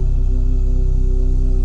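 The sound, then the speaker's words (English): Two steady humming tones for the first and second chakras sounding together, the second an octave above the first, loud and continuous with no pauses or other sounds. “Hear both frequencies, lower and the higher.”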